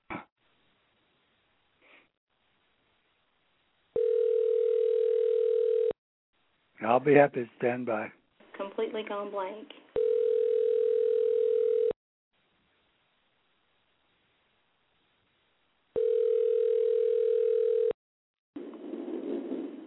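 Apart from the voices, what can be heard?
telephone dial tone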